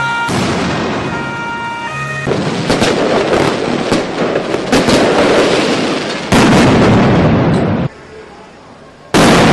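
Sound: firecrackers bursting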